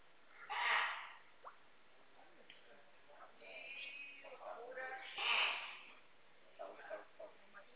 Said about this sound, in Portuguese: Nossa, espirra feio pra caraca, hein?